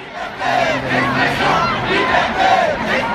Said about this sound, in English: And here, crowds on the streets of Paris last night, shouting, calling for, chanting, liberty.